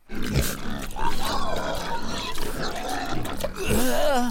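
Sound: pigs grunting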